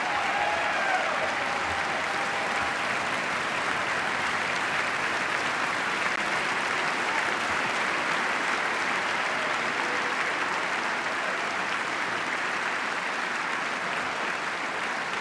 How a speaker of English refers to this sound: And sustained applause for First Lady Michelle Obama.